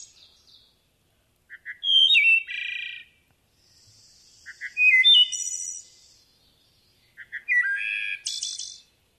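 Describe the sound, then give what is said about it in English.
A wood thrush sings three clear, flute-like phrases, each opening with soft low notes and ending in a high, shimmering trill, separated by short pauses. The song is heard alone, with no voices. “The wood thrush is another interesting call.”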